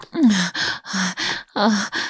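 Five short, breathy gasps from a person being choked by a hand around the throat come in quick succession, each with a brief voiced catch that drops slightly in pitch before trailing off into airy noise. They are fairly loud, with no talking.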